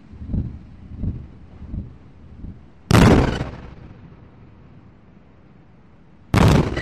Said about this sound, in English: Well, it's dawn now in Gaza, just after 6 o'clock local time, and that was two massive blasts sounding like Israeli airstrikes pretty close to where we are now.